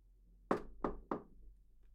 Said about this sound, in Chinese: 记得敲门哦，到时候你就知道了。